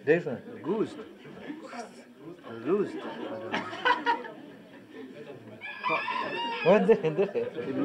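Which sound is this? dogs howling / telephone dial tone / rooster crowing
rooster crowing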